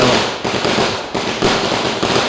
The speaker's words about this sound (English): Police trainees firing gunshots startled the press.